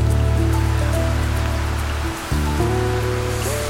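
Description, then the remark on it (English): Steady rain patters in a continuous, even hiss, falling on and off on a winter day in May at a wine farm on the lower reaches of Simonsburg Mountain near Paarl and Stellenbosch, South Africa. Low sustained tones hum underneath and shift pitch a few times; a brief dip in the middle. “It's raining on and off on a winter day in May when I stop by the Baxburg Estate Cellars.”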